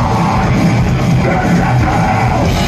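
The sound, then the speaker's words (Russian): A man, the frontman of an American metal band, screams in a harsh, distorted metal style, one loud continuous roar held for the full few seconds with no pauses, dense. “Это так кричит мужчина, у которого сломаны ноги.”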